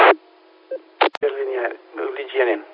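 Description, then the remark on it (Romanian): A tinny, band-limited radio transmission: short bursts of static and a quick tone blip near the middle, then a voice talking through the narrow repeater channel. “Cine a fost cu tonul după repetor?”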